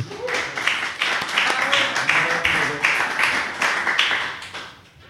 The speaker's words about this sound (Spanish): Un aplauso para él.